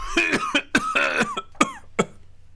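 A string of harsh coughs, about five or six in quick succession, some with a rough voiced edge, fading slightly toward the end with brief pauses between them.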